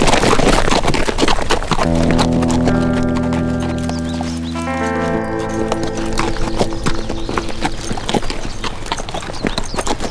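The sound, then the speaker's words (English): Galloping horses with riders pound out rapid, steady hoofbeats as they ride away, loud from start to finish, while sustained tonal notes swell over them through the middle. “Let's ride.”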